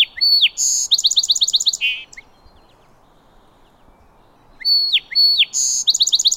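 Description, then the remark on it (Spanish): Male song sparrows sing from a wooded thicket along a shore, two clear phrases, each opening with sweet whistled notes and breaking into a rapid buzzy trill, separated by a few seconds of quiet. No one speaks. “Y desde un matorral boscoso a lo largo de la orilla, los gorriones cantores machos entonan su coro durante todo el día.”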